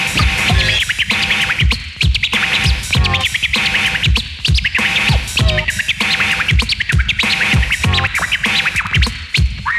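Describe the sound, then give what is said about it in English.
Rapid turntable scratching by a DJ imitating bird chirps, with quick, chirp-like pitch sweeps, played loud over a steady thumping beat, repeating in tight rhythmic bursts throughout. “Now make it chirp.”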